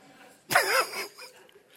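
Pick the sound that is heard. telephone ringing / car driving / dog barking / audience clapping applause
dog barking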